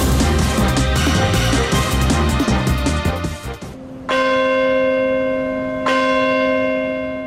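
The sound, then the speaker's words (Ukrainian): A big memorial bell, the Bell of Hope in New York, tolls twice on a Tuesday morning at 8:46 local time in memory of the victims of the September 11, 2001 attacks; slow, deep and resonant, each strike ringing on with a long sustained hum, after a few seconds of dense, clangorous ringing that cuts off abruptly. “Дзвін надії лунав у вівторок зранку у Нью-Йорку в пам'ять про жертв терактів 11 вересня 2001 року.”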